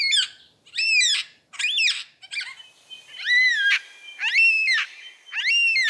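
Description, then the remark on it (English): A superb lyrebird mimics a yellow-tailed black cockatoo: a series of about seven loud, drawn-out wailing calls, each under a second, repeated with short pauses. Clear, with no talking. “Here's his impression of a yellow-tailed black cockatoo. First, you'll hear the lyrebird, and then the bird that he's mimicking.”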